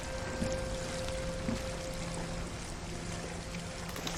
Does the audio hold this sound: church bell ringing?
no